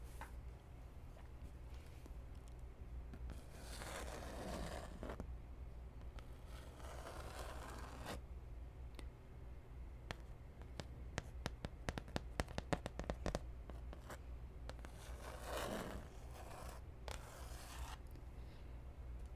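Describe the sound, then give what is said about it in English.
Scratching noises in broad bursts around 3–5, 7–8 and 15–16 seconds, plus a quick run of sharp rasping strokes between 10 and 13 seconds, all over a steady low hum. “Let's do a little bit of scratching.”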